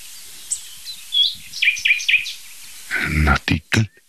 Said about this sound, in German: Nachtigall. Der hat schon wieder aufgehört. Das gibt's ja wohl nicht. Also, ich glaube, er hat nicht aus der Hainbuche gesungen.